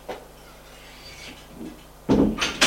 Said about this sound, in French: Et elle ouvre une porte. C'est le salon.